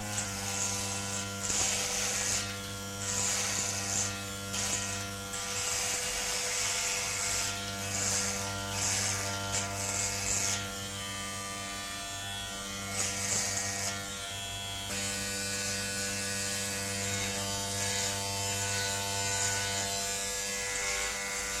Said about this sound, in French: Ouvre le néon qui se trouve devant le lavabo et se rase.